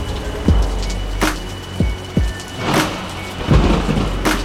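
A thunderstorm with a steady low rumble and rain hiss, broken by several sharp, crackling thunder claps at uneven intervals, fairly close and loud. No voices.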